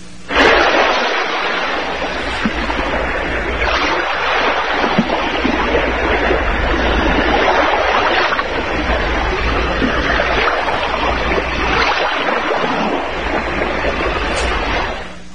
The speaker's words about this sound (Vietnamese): Gió thổi phầm phập, mang theo mùi ngai ngái của muối và rong rêu. Sóng vỗ tí tách vào mạn thuyền, lính ôm nhau nhảy múa.